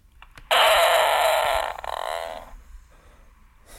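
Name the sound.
fart played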